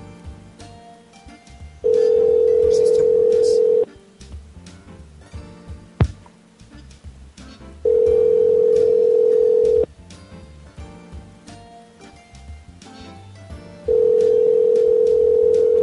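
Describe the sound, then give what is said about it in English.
A steady telephone line tone sounds in three loud, even bursts, each about two seconds long, separated by longer gaps of quiet background noise, with no one speaking. “Fucking phone, you stupid Tim Hortons.”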